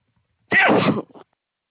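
A single loud sneeze bursts out sharply, followed by a brief trailing sniff or exhale, with silence on either side.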